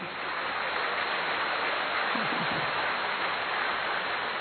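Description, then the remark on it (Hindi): A steady wash of audience applause welcoming a respected guest at a yagya gathering fills the whole stretch, many hands clapping at once into a dense, even patter with no pauses and no voices standing out. “अच्छी तरह ताली बजाएं।”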